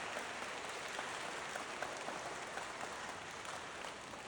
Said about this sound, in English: Clap for all my volunteers. Clap for all my volunteers.